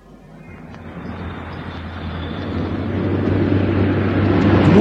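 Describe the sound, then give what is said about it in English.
A car with registration UYT576J speeding past in a hurry, its engine and road roar building steadily over several seconds, growing louder toward the end, with a low droning hum underneath and no voices. “Ooh, he's in a hurry. Hey, what was the number of that car we're supposed to look out for?”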